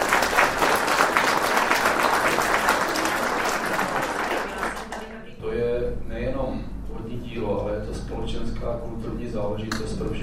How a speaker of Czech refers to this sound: Do sálu hotelu Studánka dorazili zhruba 200 lidí a atmosféra byla soustředěná, místy zazníval i potlesk.